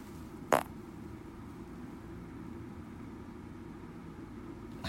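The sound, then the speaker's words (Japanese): A single short, small fart, let out on purpose, pops out near the start, brief, followed by a low steady background hum with no talking. “おならが出そうなので出そうと思います。”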